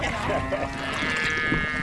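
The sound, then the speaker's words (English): Brahman cattle low in a steady, drawn-out call, a rich harmonic moan that swells and holds for nearly two seconds over rough outdoor background noise. “that's the future of Brahmins and cattle”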